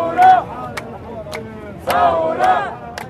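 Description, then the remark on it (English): A crowd of protesters blocking a main road in Beirut shouts and yells in the faces of a row of police in riot gear, in loud, overlapping bursts, with two big surges of voices and sharp cries rising above a steady murmur of the crowd. “They're shouting in the faces of a row of police in riot gear.”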